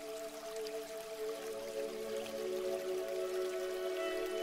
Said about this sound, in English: Being in this moment, connected to your breath, connected to the feeling of revitalization that comes from this waterfall.